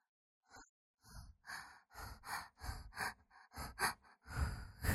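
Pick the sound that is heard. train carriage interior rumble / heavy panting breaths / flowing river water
heavy panting breaths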